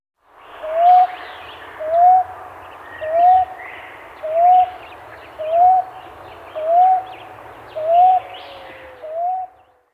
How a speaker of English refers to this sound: Common ground dove.